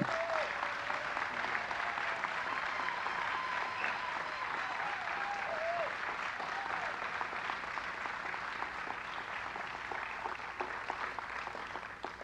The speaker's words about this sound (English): So we'd like to give a round, warm welcome of applause for Mr. Jeremy Scahill.